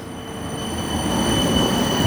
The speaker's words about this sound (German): Okay, lass mal kurz die Straßenbahn vorbei.